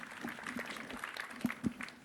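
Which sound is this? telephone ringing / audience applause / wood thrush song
audience applause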